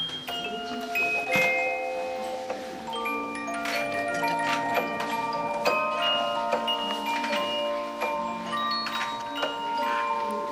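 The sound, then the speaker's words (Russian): An antique, still-working music box plays a tinkling melody, its bright plucked metal notes ringing out and overlapping in a steady, moderately loud stream with no voices. “Феерическое впечатление производит звук старинной, действующей музыкальной шкатулки.”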